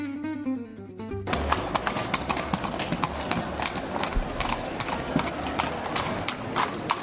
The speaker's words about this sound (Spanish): Esto que oyes es el sonido inconfundible de los cascos de los caballos, los que tiran de las carrozas, los que recorren el centro de muchas ciudades, sobre todo en Andalucía.